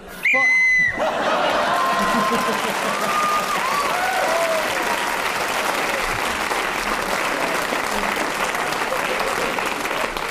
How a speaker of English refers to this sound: That is what we call being saved by the whistle, actually. We won't take it any further, except to say that Paul Merton was speaking when the whistle went, gained an extra point for doing so, and he's now in second place, just behind Clement Freud.